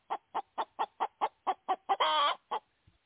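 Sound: hen clucking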